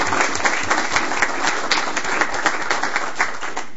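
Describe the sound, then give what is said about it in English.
Steady applause from a group of people at a meeting, given for the sheriff and the sheriff's department, many hands clapping in a dense, uneven patter that holds at a fairly even loudness throughout, with no voices standing out. “I think a round of applause for the sheriff and the sheriff's department.”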